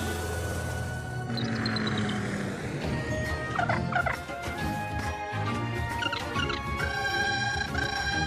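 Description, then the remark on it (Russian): A flock of cartoon pterodactyls squawks and warbles together, their shrill, gobbling calls overlapping in a steady, busy chorus that stays fairly loud throughout. “Но ты уверен, что птеродактили пойдут за мной?”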